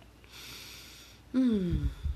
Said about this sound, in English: So, let me take a sip of tea.